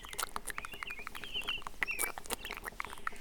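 Rain starting to fall: irregular pattering of raindrops taps away steadily, mixed with a few high squeaky chirps, at a moderate, even loudness throughout with no voices.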